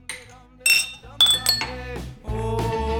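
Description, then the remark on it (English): Beer glasses clink together in a toast, several bright ringing taps in quick succession, fairly loud, followed by voices murmuring or humming in the background. “Drink good beer. Drink good beers. Cheers.”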